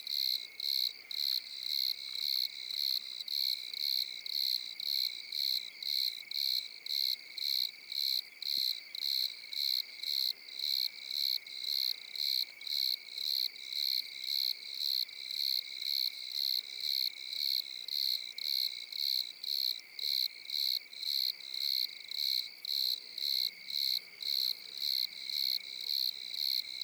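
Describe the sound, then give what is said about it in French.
Several crickets chirp steadily all around the microphones in a fast, regular pulsing rhythm, their high-pitched trills overlapping continuously for the whole stretch with no voices. “On les retrouve ailleurs, cette famille de grillons, c'est sous les tropiques et tout ça”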